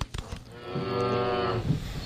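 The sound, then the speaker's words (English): A single deep, drawn-out moo from a yak on a highway, the Kiwanis Expressway, rich in harmonics, lasts about a second before trailing off, with a few sharp clicks just before it. “There's a yak on the highway.”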